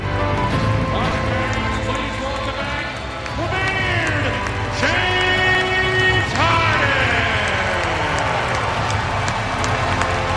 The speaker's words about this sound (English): Sentimental moment for James Harden. Mostly. And you could hear the smattering of applause amongst the some 3,900 fans here.